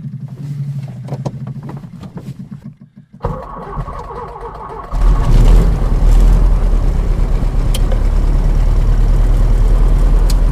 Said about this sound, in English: I'll just start the engine.